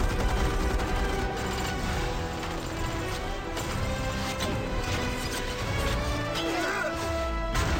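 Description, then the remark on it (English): A dense, loud action-movie mix from the opening of Iron Man 3, where Iron Man fights off an attack on his home: pounding orchestral music layered with bursts of gunfire, crashing impacts and explosive booms, continuous and chaotic for the whole stretch with no clear pauses. “Loud music, gunfire, explosions, lots of exclamation points.”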